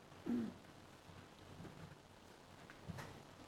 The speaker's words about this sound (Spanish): está lloviendo y muy fuerte, y por eso se está viendo la imagen